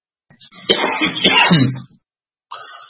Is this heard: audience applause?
no